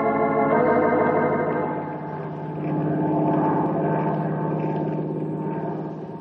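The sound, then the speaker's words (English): Randy Sims' seaplane drones steadily in flight, carrying a grizzly bear to the North Timber Ridge country: a propeller engine's low throbbing hum with strong harmonic tones that swell slightly midway, with no voices present. “Well, I hope he enjoys the plane ride all the way.”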